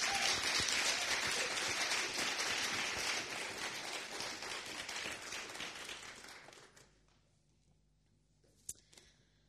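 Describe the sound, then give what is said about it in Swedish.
A crowd applauds with dense, steady clapping for about six seconds, then the applause fades out to near quiet, broken by one small sharp tap near the end. “En applåd till våra.”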